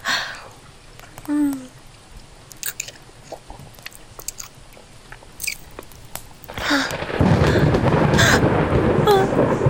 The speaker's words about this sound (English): I'm not scared of the thunder when you're holding me.